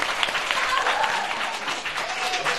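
Steady audience applause fills the whole stretch, a dense wash of many hands clapping at an even, lively level, with a faint murmur of voices mixed in.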